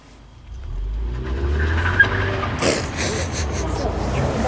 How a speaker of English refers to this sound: Here comes a car.